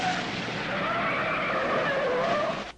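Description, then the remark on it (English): An ambulance flashing three red lights drives off down a steep ramp and turns onto a street, escorted by a police car and two sedans, its tires giving a steady, whining squeal over a broad roar of road noise that holds fairly loud before cutting off abruptly. No one speaks. “With the two guards watching, the ambulance drives away, flashing its three red lights. It descends a steep ramp and turns onto a street, escorted by a police car and the two sedans.”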